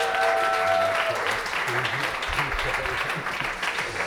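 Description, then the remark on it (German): An audience at a school poetry slam claps and applauds steadily for a student team from the Anton-Sattler-Gasse school, a dense wash of many hands filling all four seconds at an even, fairly loud level, with a brief tonal whistle or feedback at the start. “Applaus, Applaus.”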